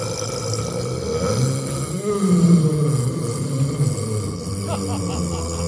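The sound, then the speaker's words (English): One long, loud, drawn-out burp rumbles low and throaty for several seconds, swelling in the middle before trailing off, with no talking over it. “All right, here's the burp.”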